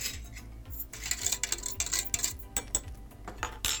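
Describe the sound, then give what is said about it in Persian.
A spoon scrapes and clinks repeatedly against a pan as walnuts are fried with half an onion, a teaspoon of turmeric and half a teaspoon of black pepper over a low gas flame for about 5 minutes, with irregular metallic taps and a low steady hum underneath, moderately loud with no voices. “حالا اگه از گوشت چرخ کرده میخوای استفاده کنی، نصفی از این پیاز رو به گوشتت بزن و نصف دیگر رو تف بده با گردوها و یه قاشق چایخوری زردچوبه و نصف قاشق چایخوری هم فلفل سیاه بهش اضافه کن.”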